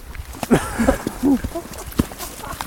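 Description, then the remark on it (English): A person mimics a horse with a string of short voiced whinny-like bursts and clopping mouth noises, fairly loud, spread over a few seconds. “He's pretending to be a horse.”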